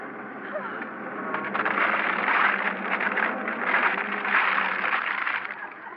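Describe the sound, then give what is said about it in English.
A car motor runs steadily, a loud, continuous rumbling drone with a rough, rattling texture that swells slightly midway and holds throughout. “I can't hear you over the sound of the motor.”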